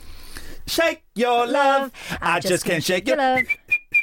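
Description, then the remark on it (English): A voice hums a bouncy pop-song tune, then a few short, clear whistled notes finish the melody in a quick rhythm, fairly loud. “Oh, the one with the whistle in him.”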